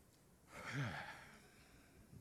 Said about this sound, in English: A prolonged yawn in American churches today.